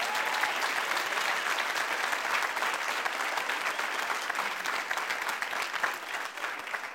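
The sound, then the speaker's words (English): A crowd claps steadily for several seconds as a hand clap of praise to the Lord during a sermon, a dense, even wash of many hands beating together at a strong level that eases off slightly at the end. “Now, if you receive that, just give the Lord a hand clap of praise, wherever you are.”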